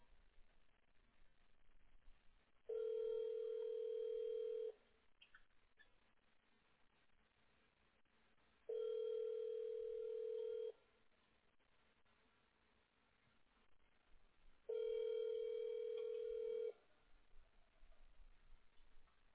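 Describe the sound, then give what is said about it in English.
A steady ringback tone of an outgoing phone call sounds three times, each ring lasting about two seconds with roughly four-second gaps, over a quiet background with faint ticking. “If he answers, if it's someone else, I'll just ask him where he's located because he's on your same area code, so he could be close.”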